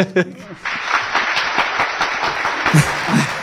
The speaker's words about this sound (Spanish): Poner ahí unos aplausos de la respuesta.